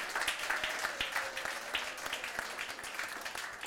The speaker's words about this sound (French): Merci, les amis. On peut encore les applaudir, ils ont été courageux.